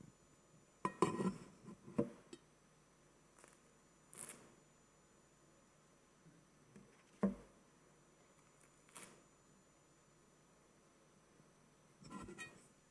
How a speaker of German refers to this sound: er hat so einen Laib Brot genommen und hat ihn zerbrochen. Ungefähr so.